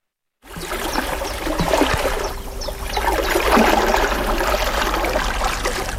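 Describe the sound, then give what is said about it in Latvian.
Water trickling and burbling in the upper reaches of the Dienvidsusēja, a small river at Aknīste in Sēlija, a steady flow with light splashing texture that continues without pause, no voices present. “Bet nu ir kaut kāds miers, ko tas ūdens dod un tā upe dod.”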